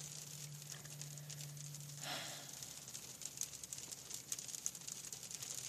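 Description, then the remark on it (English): Soft, steady rain patters, a dense crackle of tiny droplets with a faint low hum underneath and occasional slightly louder taps, with no voices. “It's these rainy days when I need you the most.”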